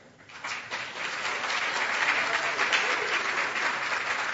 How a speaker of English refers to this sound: And hey, if you want to clap them onto stage, you go right ahead.